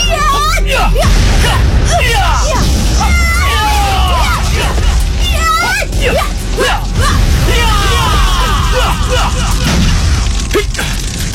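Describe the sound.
Loud, chaotic fight sound effects: rapid whooshes and thudding blows with occasional crashes, layered under shouting and grunting voices that continue throughout.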